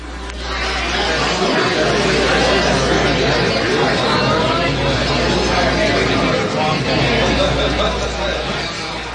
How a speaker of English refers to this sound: There are a number of situations where even a person with normal hearing has difficulty in understanding speech. Restaurant noises, for example.